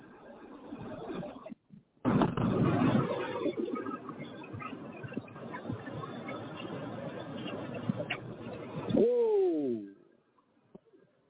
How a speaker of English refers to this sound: He was driving, but he captured it, because he was like, hey, what on earth are these birds doing? Like, flying past me.